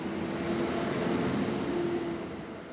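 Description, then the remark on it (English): Heavy trucks hauling sand, water and equipment rumble through the streets of Carrollton, the county seat of a rural Ohio county, in a steady, loud roar of engine noise with a low droning hum, continuing without a break and no voices. “Every day, it seems, more and more trucks hauling sand, water, and equipment crowd into the streets of the county seat, Carrollton.”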